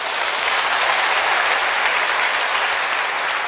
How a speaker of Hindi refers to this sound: देखो तालियां बजाओ।